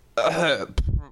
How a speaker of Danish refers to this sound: Jeg skal lige hoste lidt.